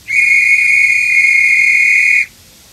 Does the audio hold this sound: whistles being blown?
yes